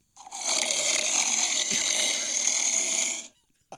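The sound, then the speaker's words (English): A person imitates heavy, mechanical respirator breathing: one long, raspy, hissing breath held for about three seconds, fairly loud, with no talking. “That sounds like Darth Vader coming.”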